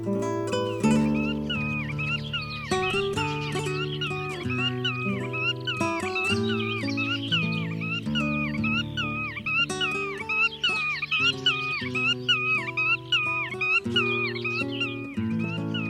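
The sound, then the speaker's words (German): A black-tailed godwit calls over and over in a steady rhythm, nasal rising-and-falling notes repeating loudly above a sustained, low musical drone. “Das war die Uferschnepfe.”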